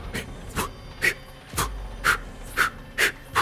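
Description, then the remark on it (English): A voice imitates heavy, labored breathing in the style of Terminator 2's Miles Dyson: a steady run of about seven harsh, panting breaths roughly every half second, with no talking. “He does some Terminator 2 breathing.”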